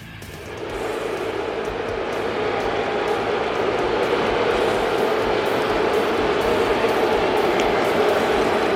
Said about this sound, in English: The scene last night. Astros, Yankees. If you ever wondered, what do they mean when they say Bronx cheer? They mean this.